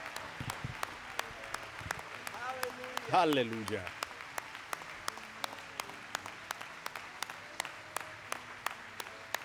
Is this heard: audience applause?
yes